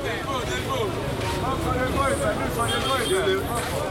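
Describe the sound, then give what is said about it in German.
Dense city traffic in Kinshasa, Democratic Republic of Congo, in hot, humid air at dusk, with motorcycle engines droning steadily as they push through, a constant rumble of vehicles, brief horn-like tones, and a babble of voices in the crowded street. “Motorräder drängeln sich durch den dichten Verkehr.”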